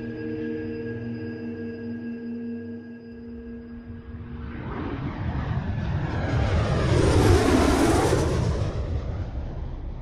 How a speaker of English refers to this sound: The private plane lands in Los Angeles International Airport.